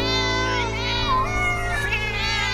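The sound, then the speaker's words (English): A voice imitates a cat's meow in a long, wavering, drawn-out cry, loud, with a steady humming musical backing underneath. “"Oh, don't let him in till it's all lapped up," somebody shouted, "meow."”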